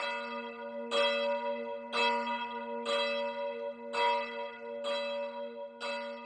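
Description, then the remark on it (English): A church bell tolls steadily, about once per second, each strike ringing with rich sustained overtones that blend into a continuous hum. Moderately loud, with no voices. “When the bell was tolling, the villager thought he was hearing his ox, Barna, calling.”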